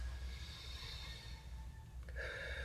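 A deep, slow breath drawn in and let out, airy and steady over a low background hum, with no talking.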